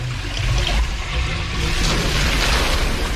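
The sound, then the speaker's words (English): Water drains away in a steady, churning gurgle with a deep low rumble underneath and a hissy wash on top, loud and continuous for the whole stretch without any voices. “The water's going down. It's going down.”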